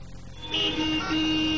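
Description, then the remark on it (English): Car horns honk in a traffic jam backed up almost a mile, their sustained, overlapping tones blaring loudly for over a second above a low rumble of idling engines. “This traffic's backed up almost a mile.”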